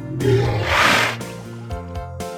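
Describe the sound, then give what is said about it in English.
A walrus lets out a deep, rumbling roar, loud and gravelly, swelling twice before settling into a lower, steady bellow with a few short grunts at the end. “W is for walrus, sitting on ice.”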